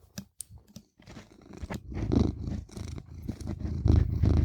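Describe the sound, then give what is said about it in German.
A cat sitting on a person's lap purrs, a steady low rumbling hum that swells and pulses, with a few brief scratchy clicks at the start as it scratches at the microphone's pop filter. No one speaks. “Oh, Katze. Ich dachte gerade, wer kratzt da an seinem Popschutz?”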